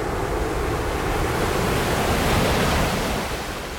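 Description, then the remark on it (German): Steady, loud roar of ocean surf breaking at high tide, with no wind, a dense continuous wash of crashing water that swells slightly before easing off near the end, with no voices. It is the opening of Bill Fontana's sound work Il Sonore (The Island of Sound). “Sondern Meeresbrandung bei Fluthöchststand.”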